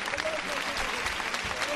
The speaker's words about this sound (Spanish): Enorme el esfuerzo que están realizando estos costaleros. La última pareja ya en la calle. Escuchen los aplausos que recompensan el tremendo esfuerzo de estos costaleros, que siguen todavía de rodillas.